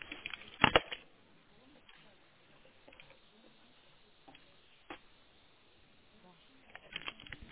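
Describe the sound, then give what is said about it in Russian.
Papers rustle and shuffle in soft, uneven bursts as someone looks for their document, with a few sharper crinkles standing out over a low scratchy background. “Вижу я, где моя бумага.”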